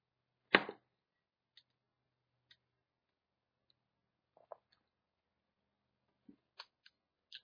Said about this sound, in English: Somebody's typing.